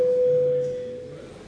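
parliamentary voting bell tone

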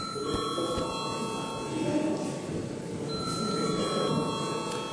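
parliament voting bell

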